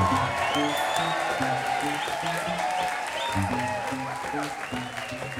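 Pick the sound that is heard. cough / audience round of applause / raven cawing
audience round of applause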